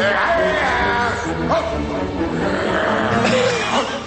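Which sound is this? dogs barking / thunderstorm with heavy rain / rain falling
dogs barking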